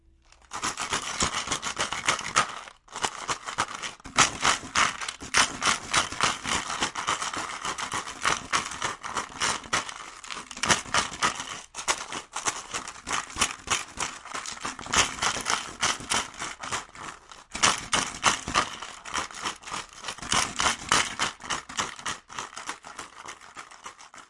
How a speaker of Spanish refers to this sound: El sonido sorpresa de hoy fue el de una sonajera casera, la cual construí con una botella de plástico y muchos botones que encontré en una gaveta.